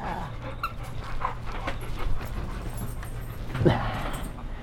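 A dog pants steadily, quick rhythmic breaths running throughout with a low background hum and a brief soft whine near the end.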